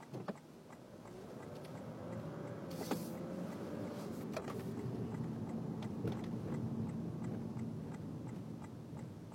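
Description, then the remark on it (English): Steady low engine rumble from inside a moving car leaving a parking garage, with a motorized whine like a power window, a brief rushing burst, and faint regular ticking throughout. No one speaks. “Tell this car has been parked in that parking garage too long because it's hot in here.”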